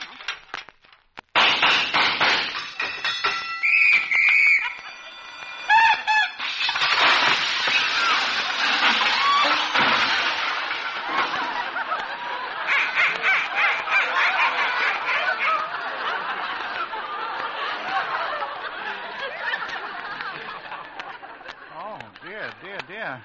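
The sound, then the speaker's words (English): A jail door is unlocked with a key and opened, its hinges giving a long, loud, grating creak with a few high squeals that stretches into a harsh, rasping screech dragging on for many seconds. “I guess the hinges squeak a little.”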